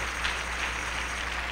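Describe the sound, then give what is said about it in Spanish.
A crowd applauds for God in a steady, dense wash of clapping that holds an even loudness throughout, with no voices rising above it. “Le das un aplauso a Dios fuerte.”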